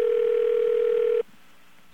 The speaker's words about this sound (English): Okay, let's get a real dial tone.